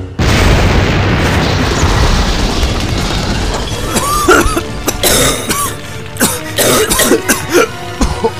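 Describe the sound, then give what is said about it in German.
A loud explosion of a freighter's cut coolant lines to the main drive roars with a heavy rumble for several seconds as pressurized gas shoots out, then breaks into a string of sharp bursts and crackling pops as it dies down. “Auf diese Explosion war ich nicht vorbereitet.”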